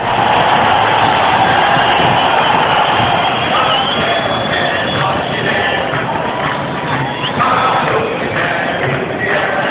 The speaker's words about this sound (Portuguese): No dia 11 de novembro de 2012, o Grêmio entrou em campo aos aplausos de 45 mil torcedores. A penúltima vez que faria isso no Estádio Olímpico Monumental.